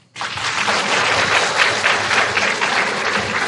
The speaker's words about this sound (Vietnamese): Bà con cho một tràng pháo tay.